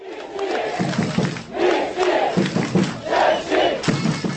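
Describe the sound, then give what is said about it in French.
Hundreds of Czech ice hockey fans outside Prague airport cheer and chant in rhythmic surges as the team arrives, loud voices rising and falling in waves with shouts layered over a dense roar of many people. “Les festivités ont continué dès la sortie de l'aéroport, où des centaines de fans les attendaient déjà.”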